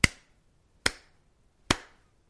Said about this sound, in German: Und so bat er seine Gäste, lasst uns alle zusammen dreimal in die Hände klatschen.